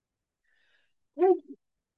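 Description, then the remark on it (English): One quick sneeze bursts out after a near-silent pause, a sharp explosive burst with a short trailing tail, otherwise quiet, with no talking around it. “Bless you.”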